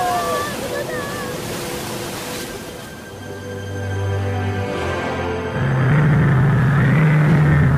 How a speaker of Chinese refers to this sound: 一阵响亮的吼声盖住了水手们的叫嚷，海水被搅动的激起了大波浪。